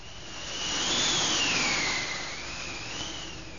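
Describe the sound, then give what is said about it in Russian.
Strong wind roars steadily over a stormy sea, with a thin whistling tone that rises and dips as the gusts swell and ease, alone, with no voices. “Ветры подули, море взволновалось и бочку выкинуло на сухой берег, на желтый песок.”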